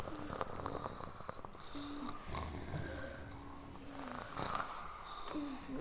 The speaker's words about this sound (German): Das Kätzchen schmiegte sich in Felix' Arm und schnurrte kaum hörbar.